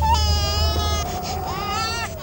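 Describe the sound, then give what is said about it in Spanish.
A baby wails loudly in two long, strained cries with a brief catch of breath between them, over a low steady rumble. “el llanto del niño era tan fuerte que en unos pocos minutos José lo pudo encontrar”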